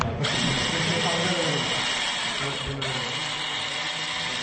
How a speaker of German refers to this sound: Acht Elektromotoren surren hier. Jedes Rad hat einen eigenen Motor, damit sich der Roboter besser bewegen kann. EMSA ist nämlich dafür konstruiert, Gegenstände herbeizuschaffen.